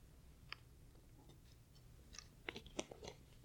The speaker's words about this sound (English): Take a sip of water, too.